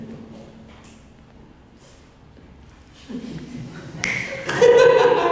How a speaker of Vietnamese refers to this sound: Học búng tay rồi này.